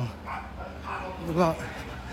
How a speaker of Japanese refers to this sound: 犬がワンワンとか、なんかすごいね、京都なんだよね。岩屋神社の前ね、下の方ですけど。